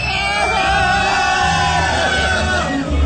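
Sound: crowd cheering and shouting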